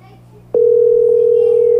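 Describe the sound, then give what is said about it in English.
A telephone line tone starts abruptly after a brief quiet moment and holds as a single loud, steady pitch without a break until the end, with faint background murmur beneath. “It's ringing. At least that sounds good.”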